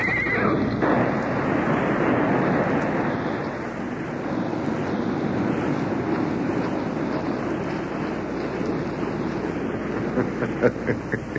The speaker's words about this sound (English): Neither could they see the rope that was stretched tightly right across their path. Before they knew it, the galloping horses tripped on the rope.